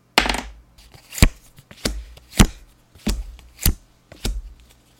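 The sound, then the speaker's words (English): Dice clatter onto a hard surface in a series of sharp, bright clacks, roughly eight knocks spaced unevenly over a few seconds, loud and crisp with no voices. “Then a step is for me to roll the dice again.”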